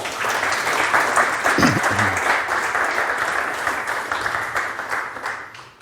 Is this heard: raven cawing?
no